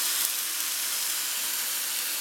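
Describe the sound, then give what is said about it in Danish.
Water hits a hot pan and sizzles in a steady, bright hiss that holds evenly for a couple of seconds, with a slight burst at the start and no voices. “Der kom vandet i her.”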